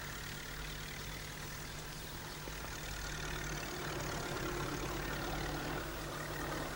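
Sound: tractor engine running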